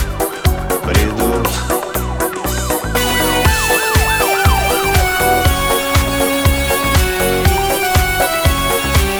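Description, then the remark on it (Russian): A wailing emergency siren roaring at night sweeps up and down, rising over loud driving music with heavy, steady drum beats before blending into the full band. “Опять в ночи ревет сирена, и вновь дорога в свете фар.”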